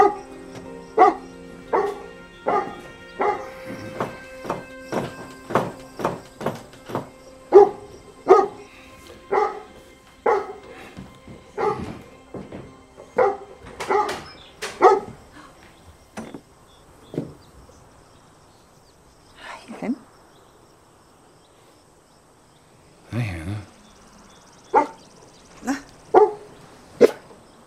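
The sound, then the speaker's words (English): A dog barks loudly, a rapid steady string of sharp barks that later slows into scattered single barks and short yips separated by pauses. No one speaks. “Brought your dog home.”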